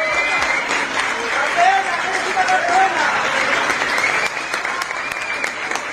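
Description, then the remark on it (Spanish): Loud, sustained applause and cheering shouts from a large crowd welcoming badminton player Carolina Marín, arriving on crutches in Madrid as the doors open, a steady roar of clapping throughout, with a few brief whistle-like calls rising above it. “Llegaba con muletas, oía gritos y aplausos de campeona”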